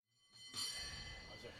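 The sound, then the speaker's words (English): The bell of Powell cable car number 21 clangs with a bright metallic strike, its overtones ringing on steadily, and a second hit sounds just before the end. “Do they have distinctive sounds? They do. Certain bells sound better.”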